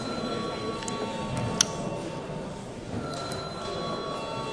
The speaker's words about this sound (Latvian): Lūdzu zvanu.